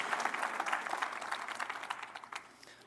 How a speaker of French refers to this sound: Come on, une bonne main d'applaudissement.